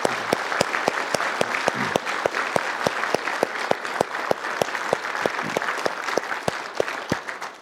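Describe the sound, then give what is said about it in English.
Sustained audience applause with dense, steady clapping throughout, individual sharp claps standing out over a continuous wash of hands; no voices stand out. The applause follows a children's play production, More Than Just a Man. “Is it all right if we just applause once more?”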